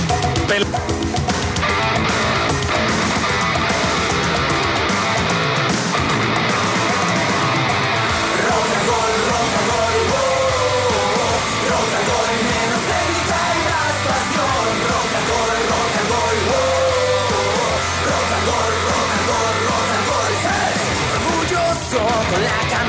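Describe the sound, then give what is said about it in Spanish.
A dense, continuous roar of many people shouting together as a football match begins, loud and holding steady for the whole stretch, with layered voices blending into a sustained crowd noise. “Muchos gritos y el partido empieza.”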